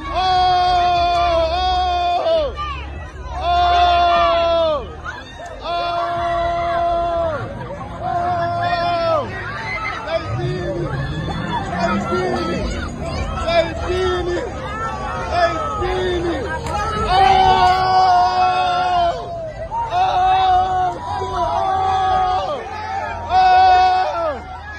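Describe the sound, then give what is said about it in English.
A loud, agitated crowd yells and screams, with repeated high-pitched cries rising over dense shouting and babble for the whole stretch, chaotic, as a mob violently attacks people: a man is curb stomped and a woman with him is assaulted. “In this, it's just a mob hurting people for fun.”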